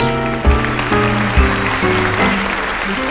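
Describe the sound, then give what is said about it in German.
An audience at a magic show applauds the magician, the great Harris, as the first act begins on stage, in a steady, dense wash of clapping, with a stepping musical melody of sustained notes playing beneath it for the whole few seconds. “Applaus für den großen Harris.”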